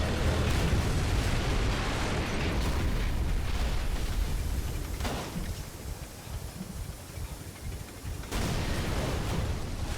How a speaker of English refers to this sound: That was kind of a weird explosion.